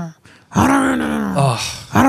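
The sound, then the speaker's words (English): A voice imitates a 1980s- or 1990s-style ripcord pull-start lawnmower failing to start: a long, loud, buzzy vocal drone that sags in pitch, breaks off, then starts again. “It just makes me think of the lawnmowers of the 80s and 90s.”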